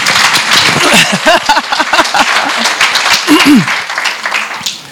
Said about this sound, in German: Also erstmal hier, dass er das überhaupt macht. Beifall, bitteschön.